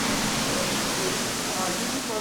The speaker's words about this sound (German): In der Kammer hängen viele Rohre von der niedrigen Decke. Aus ihnen schießt mit Wucht das Grundwasser lautstark auf Metallplatten. Es ist der erste Schritt der Aufbereitung zum Trinkwasser.